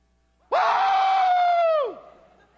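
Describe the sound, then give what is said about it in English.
A single voice lets out one loud, sustained cheering yell, imitating a football crowd erupting over a game-winning touchdown. It holds for over a second, then slides downward and fades. “And bless your heart, when the Dogs score that game-winning touchdown, what happens?”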